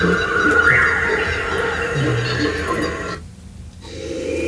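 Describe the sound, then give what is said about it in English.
Dense, steady jungle ambience sound effect with a few monkey calls rising above it, slightly echoey, before the background briefly thins near the end. “The others, so this is a jungle that has some monkeys in the background.”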